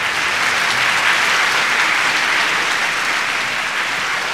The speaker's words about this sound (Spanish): Se escuchaba el efusivo aplauso de la gente, esperando que la familia ingrese, pero ya pasaban varios segundos y nada que entraban.